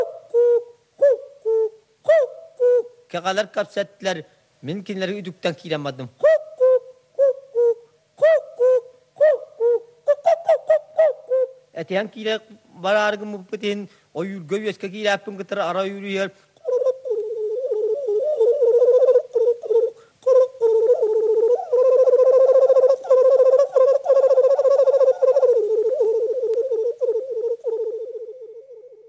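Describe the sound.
A Yakut hunter's song: a solo voice imitates bird calls with short, rhythmic hooting and warbling bursts, then slides into a sustained, steady chant, fairly loud.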